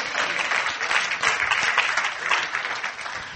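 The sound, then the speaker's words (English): A crowd claps together in sustained, dense applause as a hand clap of praise, a steady wash of many hands that holds at an even, fairly loud level throughout with no voices standing out. “Go on, give me a hand clap of praise.”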